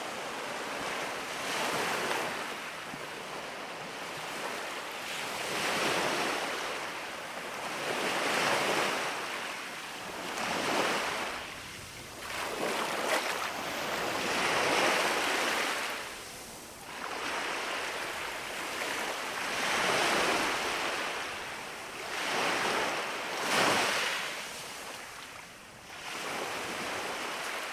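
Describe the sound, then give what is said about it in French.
Waves wash in and recede at the water's edge on La Réunion in a steady rhythm, broad hissing surges swelling and fading every few seconds with a constant rush of surf underneath and no voices. “Ok, je vais m'emmener au bord de l'eau.”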